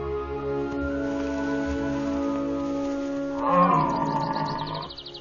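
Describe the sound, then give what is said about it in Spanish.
A deep, drawn-out bellow with strong harmonic bands, swelling louder and rougher near the end before cutting off, like a red deer stag roaring in the late-September rut while seeking a mate. No voices are heard. “Los ciervos buscan miembros del sexo opuesto.”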